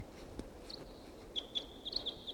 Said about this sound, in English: Wild. Wild. Single wild bird here.